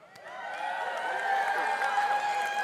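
An audience claps steadily for a few seconds, the applause mixed with a wash of cheering and overlapping crowd voices, holding fairly loud throughout.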